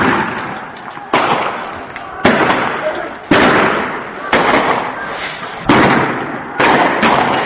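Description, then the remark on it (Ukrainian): Sharp gunshots crack out one after another, roughly a second apart, each with a short echoing tail, over a dense roar of crowd noise and indistinct voices, during street protests against mass arrests in Syria on a Friday of Ramadan. “По всій Сирії чути цього дня стрілянину і гул невдоволення та опору масовим арештам.”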